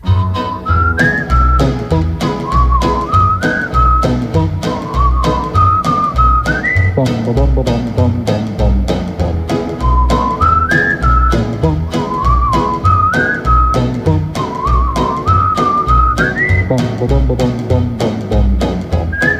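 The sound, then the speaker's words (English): A bright whistled melody carries a cheerful tune over a steady, bouncy musical backing with a regular beat, the phrases repeating in a loop throughout. “If only you'd come back to me, my lips would whistle a song in the hap, hap, hap, hap, happiest key. I'd whistle all day long.”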